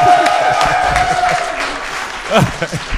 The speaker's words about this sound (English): Now let's give the Lord a big round of applause. Lass nun dem Herrn ein Klatschen geben.